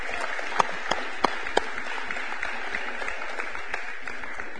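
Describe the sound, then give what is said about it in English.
A crowd at worship claps steadily and loudly, with scattered sharper hand claps standing out and indistinct shouts of praise mixed into the continuous applause. “So y'all just with a big shout of praise and a hand clap, just bring your tithes and offerings and worship the Lord.”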